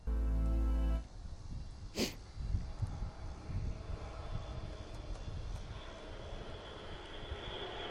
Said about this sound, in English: Wow, we just got buzzed by a... I can hear it. C-130 again. My goodness.